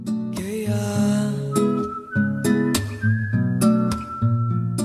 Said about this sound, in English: So we recorded there and then naisip pala na maglagay ng, ng whistle. So did you whistle?